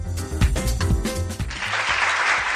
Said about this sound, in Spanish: Y este aplauso porque el largometraje Carraco, un documental rodado en Montes Torozos y Toro, va dirigido por el vallisoletano Carlos Cazurro, se va a presentar hoy mismo en el Centro Regional de Artes de Artesanía de Castilla y León